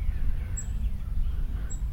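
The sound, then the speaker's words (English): A red-winged blackbird, off to the right, gives two brief, high chirps about a second apart over a steady low outdoor rumble. No one speaks. “And then off to the right, there's a red-winged blackbird that was chirping, and there he is again.”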